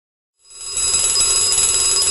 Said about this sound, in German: Der Wecker klingelt.